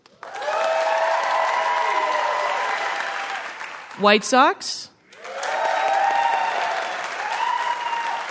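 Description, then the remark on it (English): A crowd in a room applauds loudly and steadily for several seconds in answer to a survey of who considers themselves a Cubs fan, broken by a brief question from a man, and then a second round of sustained clapping with some cheering voices mixed in. “Who, by applause, considers themselves a Cubs fan?”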